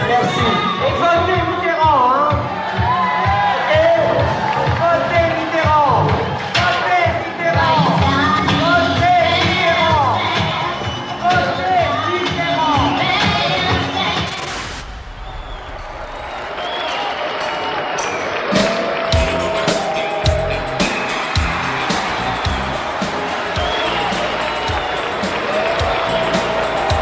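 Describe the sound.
A large crowd in the hall of the Palace, on the balconies and the dance floor, reacts loudly, split between applause and a roar of booing and shouting voices. After a brief dip midway, the clapping returns as a dense, crackling wash under continued jeers.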